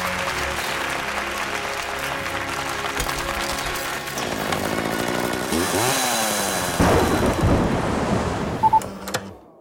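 A chainsaw engine revs and roars amid thunder, its pitch rising and falling, over a steady wash of noise like applause, ending in a few sharp bursts.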